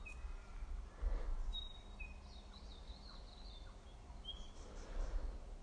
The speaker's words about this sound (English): I think the little blackbird is being called home.